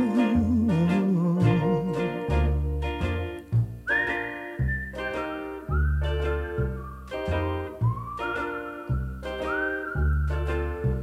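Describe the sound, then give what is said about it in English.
A bright whistled melody glides and bends between sustained notes over a steady, bouncy instrumental backing with a regular beat; no one speaks, and the whistling sits clearly up front. “It's a whistling tune for walking in the night.”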